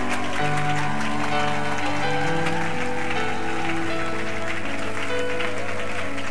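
A crowd claps and cheers steadily throughout, welcoming people arriving for the first time, a dense wash of applause with voices rising over sustained low musical tones.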